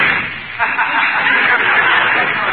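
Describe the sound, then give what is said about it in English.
A door is slammed shut with a loud, harsh, rattling crash that rings on for a couple of seconds, forceful, with no talking over it. “Is the door still on the hinges, Amos?”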